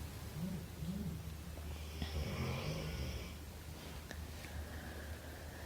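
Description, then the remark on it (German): A female dog lying relaxed snores steadily, low rumbling breaths with snorty, wheezy edges repeating over a faint background hum, no voices present. “Ja, und das, was du im Hintergrund hörst, ist nicht das Knurren vom Wolf, sondern das Schnarchen von unserem Hund, die schon ganz entspannt da liegt, weil sie weiß, da geht keine Gefahr aus.”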